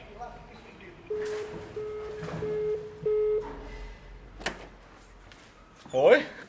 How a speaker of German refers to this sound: In kurzen Hosen und Liebli macht der Studiochef gerade persönlich die Türen auf zu seinem Reich.